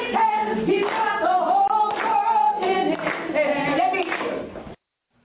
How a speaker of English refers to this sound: Here he is, April 5th, at the New College of Florida, because he is running for president, trying his best to seem interested as he claps along to an ethnic song and dance.